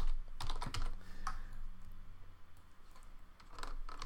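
Steady typing on a Windows keyboard used with a Mac: a quick run of light plastic key clicks with brief pauses, plus a low hum underneath and no voices.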